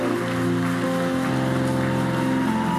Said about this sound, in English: Why don't you stand to your feet and honor your pastor this evening? Clap your hands properly.